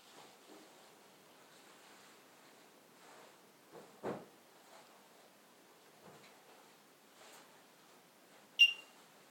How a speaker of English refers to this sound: Definitely sounds like the phone being put back. Pop. That's not very musical.